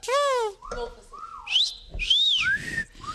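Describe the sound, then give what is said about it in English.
A person whistles a catcall: several short sliding notes rising and falling in pitch like a wolf whistle, fairly loud, with a breathy, uneven quality between attempts. “They roll the window down, and then someone tries to do the somebody whistle it for me, if you can whistle the”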